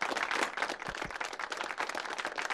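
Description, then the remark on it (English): A burst of steady applause from a group clapping for their creation, the Wallmanator 3000, many hands clapping at once in a dense, continuous patter with no voices over it. “How are we clapping?”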